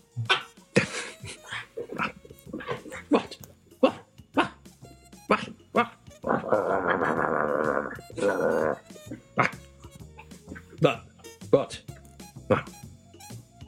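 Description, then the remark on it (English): A person imitates a barking dog, firing off a rapid string of sharp barks, breaking into a sustained whining howl midway, then barking again. “I need to brush up on my dog.”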